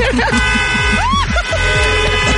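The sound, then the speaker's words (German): Several car horns blare together in a loud, sustained chorus of honking as everyone honks to celebrate a completed challenge, with voices talking and chattering underneath. “Ja klar, haben dann erstmal alle ganz laut gehupt.”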